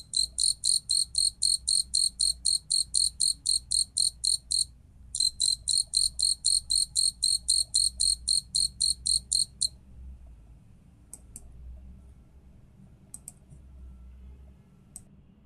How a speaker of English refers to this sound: Listeners, that we were listening is a Japanese burrowing cricket. Can you hear the song of the cricket? Let's listen to this Japanese burrowing cricket.